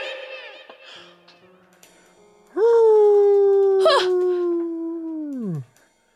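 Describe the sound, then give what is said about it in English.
A wolf lets out one long, loud howl inside a castle, lasting about three seconds, rising sharply at the start, holding a steady tone, then dropping away at the end, after a stretch of softer, jumbled sounds. “Oh, a wolf followed me in here.”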